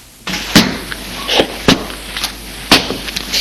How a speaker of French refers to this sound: Elle ferme la porte.